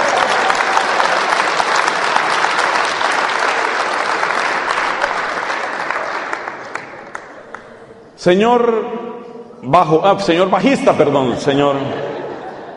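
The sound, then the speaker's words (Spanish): A crowd applauds the bass player with dense, steady clapping for about eight seconds, fading out before a man begins speaking over the last of it. “Por favor, le dan un aplauso al bajista.”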